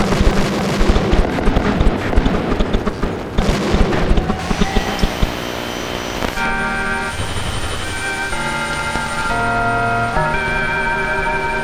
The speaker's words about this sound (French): De mes propres oreilles, j'ai vu des ricochets, les pains d'explosifs, les pétards qui sautent dans la rue. Vous entendez peut-être.